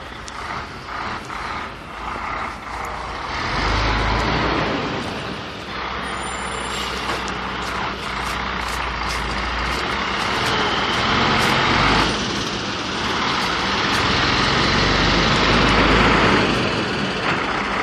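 A large truck loaded with roofing shingles for a roof replacement rumbles with its diesel engine for the whole stretch on a cold morning, growing louder and heavier midway, with a few brief high hisses and squeals on top and no one talking.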